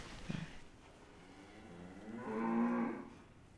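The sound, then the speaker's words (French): A cow lets out a single drawn-out moo, swelling to a loud, harmonic low bellow toward the end, with a brief thump near the start and no talking. “Je mets le taureau avec les vaches toute l'année.”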